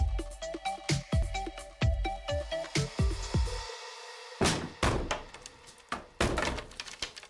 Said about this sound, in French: Ils grimpent avec la grande échelle jusqu'au Velux au-dessus de sa chambre et ils ordonnent qu'on enfonce la porte.